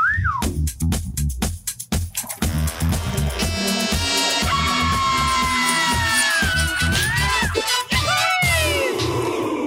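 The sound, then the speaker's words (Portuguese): A loud, busy musical jingle: punchy percussive hits open into a dense wall of sound with swooping, whistle-like tones and crowd-like roar, running continuously for about ten seconds with no talking. “solta a vinheta, meu ruge!”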